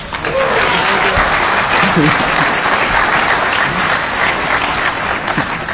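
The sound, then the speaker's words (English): Sustained audience applause for the founder of Aircrack-NG, a dense, steady wash of many hands clapping at an even loudness for several seconds, with faint voices mixed underneath. “And somebody give this man a round of applause.”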